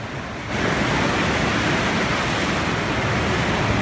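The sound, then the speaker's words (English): Water sloshing in a ship's pool while the ship sails through an area known for rough seas, a steady, loud wash of splashing waves that swells in after a brief quiet start and continues without pause. No voices. “We didn't have as rough as they often have it, but still you could hear the sound of the waves, and that was just in the pool.”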